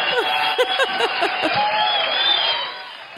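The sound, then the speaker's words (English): A steady, dense roar of a stadium crowd, with a few brief shouts or voices popping out early on, then the wash of noise eases slightly toward the end. “Okay, we turned down the crowd noise.”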